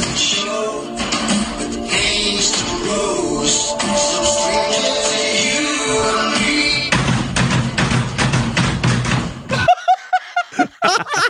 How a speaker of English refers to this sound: Because he slaps and he does it right. Yeah, and he has exactly the right number of doors and drawers and a microwave to make it a perfect roll like that